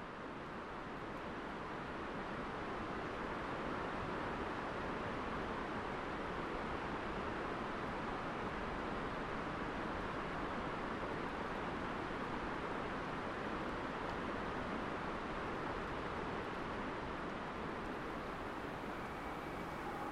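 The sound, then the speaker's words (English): The distant Ho River, which drains the rainforest, rushes in a steady, unbroken roar echoing off the far side of the valley, soft and even for the whole stretch with no voices or other sounds breaking through. “And then we'll hear further away the sound of the Ho River that drains the rainforest, echoing off the far side of the valley.”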